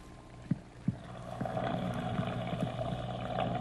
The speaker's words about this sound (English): You mean we'll hear what the fish actually hear? That's right. Okay. It'll sound like a scuba diver to them, perhaps. Uh-huh. All those bubbles.